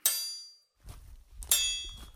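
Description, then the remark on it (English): A heavy door slams shut twice with a loud metallic clang, each impact ringing briefly. Low rumbling and shuffling fill the gap between the two slams, and no one speaks. “Bloody door.”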